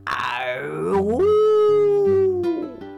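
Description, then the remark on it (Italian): A fox screams once in a long, loud wail that swoops down and then holds a steady, drawn-out pitch for a couple of seconds before breaking off, clear over a low background drone. “Urlò la volpe e con un balzo fuggì nella foresta.”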